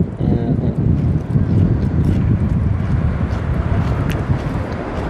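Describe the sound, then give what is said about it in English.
Strong wind blowing steadily throughout, a loud, continuous low rumble and buffeting, with gusts that rise and fall slightly. “It's quite windy now.”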